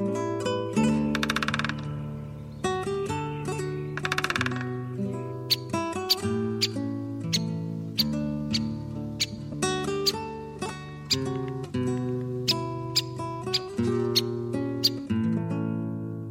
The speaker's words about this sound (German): Das war der Buntspecht.